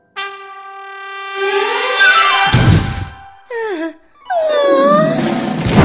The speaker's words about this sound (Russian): Ты чего кричишь?